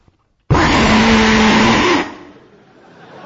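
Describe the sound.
A voice imitates the underwater noise of the Yangtze River: a loud, steady, hissing roar like white noise with a faint low hum beneath, held for about a second and a half, then cut off.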